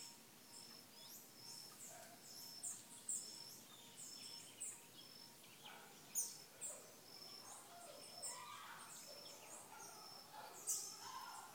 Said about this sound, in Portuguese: Dankbar, dass die Natur um uns herum noch so kräftig ist und dass die Vögel zwitschern. Grato porque a natureza à nossa volta ainda é tão forte e porque os pássaros cantam.